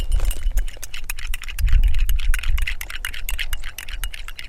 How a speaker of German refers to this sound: verrührt einen gehäuften Löffel Zucker in einem kleinen Glas Tee.